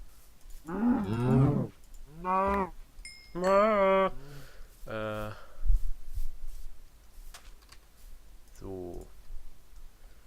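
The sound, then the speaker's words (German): A cow moos several times in short, drawn-out calls spaced a second or so apart, followed by a pause and one more moo near the end, with faint clicking beneath. “Und da ist auch schon unser erstes Opfer. Diese Kuh.”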